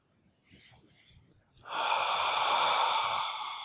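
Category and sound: human body sound, deep audible exhale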